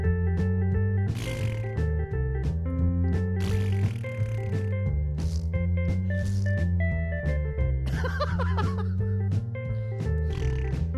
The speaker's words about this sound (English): Are those turkey queefs? That's what it sounds like. It's more of a queef than a fart.